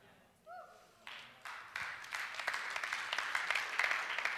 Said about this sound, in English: That's not worth clapping for.